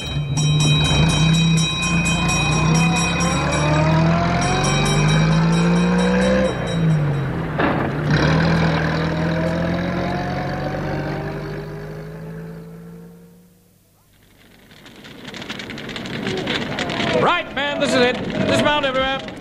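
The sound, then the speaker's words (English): A fire engine's motor runs loud, its droning pitch sweeping up and down, then dies away briefly before a rougher, clattering burst of mechanical noise returns. “Stand by the controls at the rear of the engine.”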